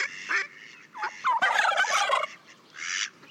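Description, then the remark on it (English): A turkey gobbles in several rapid, rattling bursts, the loudest a long warbling call in the middle, clear with no other voices. “Don't forget the turkey.”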